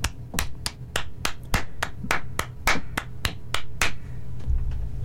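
Hands clap out a steady beat, about fourteen sharp, crisp claps in quick rhythm over a low hum, stopping shortly before the end. No one speaks.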